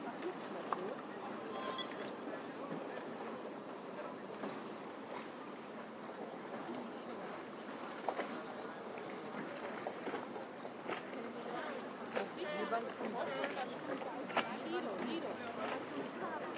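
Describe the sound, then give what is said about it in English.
Water sloshing steadily around a small rowing boat used as a gondola to cross the water, with occasional sharp knocks and splashes over a constant outdoor wash, and indistinct voices murmuring in the background. “Okay, it's like a rowing boat, so yep.”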